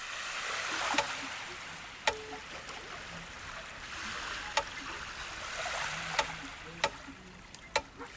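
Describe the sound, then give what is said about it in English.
Shallow seawater washes and swirls steadily as the tide comes in on Blackrock Beach in Dublin, during a 2020 Biosphere Festival performance of Sebastian Adams' Tide Quartet, a string quartet seated in the sea, with a handful of sharp, irregular knocks and clicks over the hiss. No one speaks. “You're listening to Sebastian Adams' Tide Quartet that was performed as the tide was coming in on Blackrock Beach in Dublin during the Biosphere Festival in 2020.”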